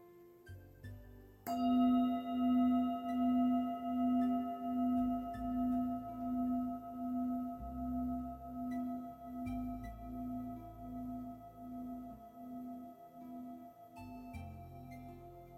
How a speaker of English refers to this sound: We'll begin and end the meditation with the sound of the bell.